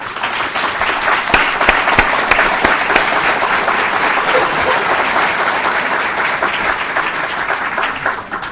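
Steady, sustained applause from a film audience for Dalia Mogahed, the star of the film, as she stands up, a dense wash of many hands clapping at an even loudness throughout, with a few sharper individual claps standing out early on.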